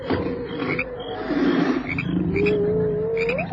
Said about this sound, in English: Striped hyena. Lion doesn't like them, does he?